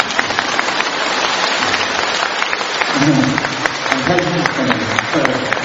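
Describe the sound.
Sustained applause from an audience at a talk in Malaysia, a dense steady patter of many hands clapping at even loudness, with a few voices briefly rising beneath it toward the end.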